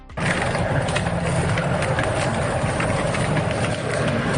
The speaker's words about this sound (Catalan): El so de les flames amb aquest incendi d'Amer es confia de que al llarg d'aquest matí es pugui controlar definitivament aquest incendi.